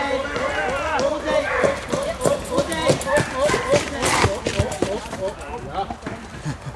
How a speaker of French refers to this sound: Un cheval qui essaye de s'échapper. Oui. C'est bon, là, ils l'ont calmé.